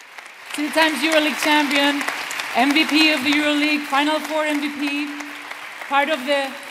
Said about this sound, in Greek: Τα χειροκρότηματα λοιπόν για όλα αυτά